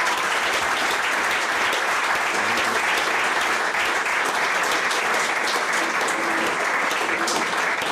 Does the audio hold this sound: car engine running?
no